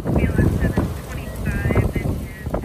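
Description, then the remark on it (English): Loud, blustery wind roars and buffets the microphone continuously, surging and easing slightly, with faint whistling tones riding above the low rumble; strong wildfire-season winds, gusting up to 96 miles an hour, whipping through a town in California's Napa Valley. “Very loud winds are whipping through the town, right? There's moments where it dies down and then it comes back.”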